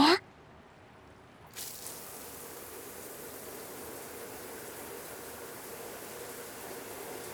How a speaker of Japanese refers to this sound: それじゃあシャワーでてっぺんから順に流しちゃいますね。